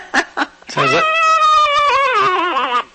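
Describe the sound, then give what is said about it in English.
A homemade wind instrument made from a carrot, with a reed of straw cut into a little V at the end, gives two short squeaks, then a long, nasal, wavering buzzy tone, loud, bending slightly in pitch before cutting off. “and then you get a piece of straw, and you cut the end off so it makes a little V, and then you get a carrot, and I hope this doesn't blow your microphone, but this is what it sounds like.”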